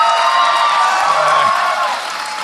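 A large audience claps steadily and loudly, with scattered cheers and whoops mixed into the dense wash of applause, holding at an even level throughout, greeting actor Keith Powell, known as Twofer on 30 Rock.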